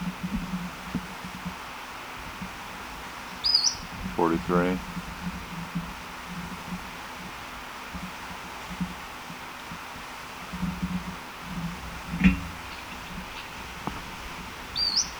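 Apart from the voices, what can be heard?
bird call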